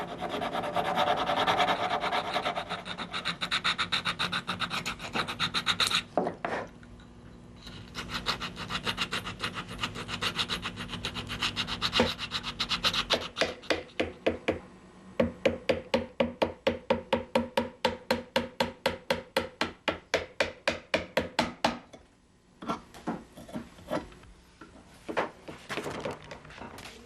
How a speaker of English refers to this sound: In order to shape the hull, I carve it and whittle and chisel and sand it until it finally becomes the right shape.